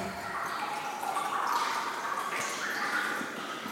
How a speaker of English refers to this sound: enjoys listening to the water droplets fall from the ceiling